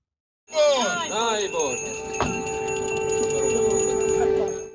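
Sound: church bells ringing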